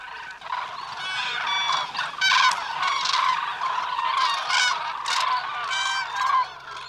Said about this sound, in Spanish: El estruendo de graznidos y trompeteos procedente de un numeroso bando de grullas se puede escuchar a kilómetros de distancia. El griterío es ensordecedor. La grulla, una de las aves más ruidosas que existen, es la gran protagonista de este momento.